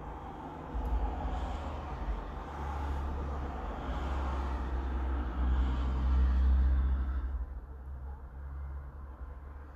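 road traffic passing

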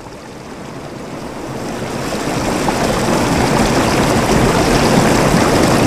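rushing river water

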